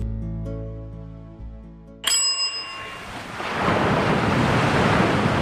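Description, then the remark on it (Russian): Soft ocean waves wash and lap against the shore in a steady, swelling hiss, rising after a bright bell chime that follows a few seconds of sustained, droning tones. “Океан нежно плескался о берег, когда подошел малыш со своей мамой.”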